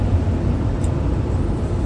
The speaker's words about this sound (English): I am passing a truck now, so it might get a little noisier.